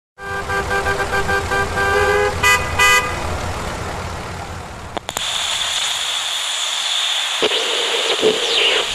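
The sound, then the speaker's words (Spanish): Busy road traffic with car horns honking in steady harmonic blasts, a couple of short toots, then a hissing rush of passing vehicles. “Buenos días, tenemos que advertirles que va a haber mucho tráfico en las principales vías de entrada a la ciudad, en las principales calles y avenidas”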